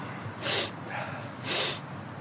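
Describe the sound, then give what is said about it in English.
Three quick, sharp inhalations drawn in through the nose, each a short breathy sniff separated by brief pauses with no talking. “And then breathe in fast 3 times.”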